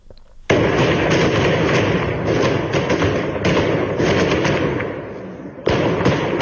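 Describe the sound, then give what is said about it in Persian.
Irregular sharp cracks of gunfire from security forces shooting at protesters in Sanandaj, Iran, ring out over a loud, dense wash of outdoor noise, the shots scattered and unevenly spaced, with no clear speech. “با هم بشنویم صدای یک ویدیو در سنندج رو که صدای شلیک نیروهای انتظامی است به سوی مردم معترض”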